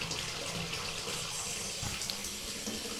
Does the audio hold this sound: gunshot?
no